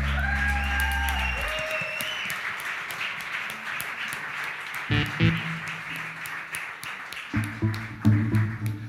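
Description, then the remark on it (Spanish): An audience applauds God steadily for several seconds, a dense, fairly loud patter of many hands, with sustained musical tones underneath at the start and again near the end. “ese aplauso a Dios.”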